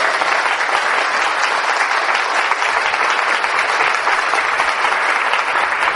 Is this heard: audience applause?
yes